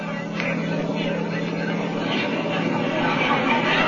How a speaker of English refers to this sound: The fighter planes were coming in, biplanes, each with 2 machine guns and a few bombs.